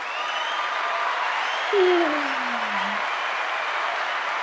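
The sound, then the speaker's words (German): An applause sound effect: a steady wash of applause with a cheering crowd runs throughout, and a single descending whistle-like tone glides downward partway through before the clapping continues evenly to the end. “Applaus für einen Euro.”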